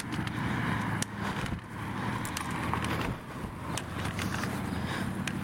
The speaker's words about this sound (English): My brother would be able to tell me if that motorbike's any good. He's the motorcycle connoisseur.